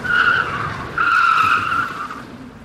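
A loud, sustained screech of car tires skidding, in two long bursts with a brief break between, fading toward the end with no one speaking.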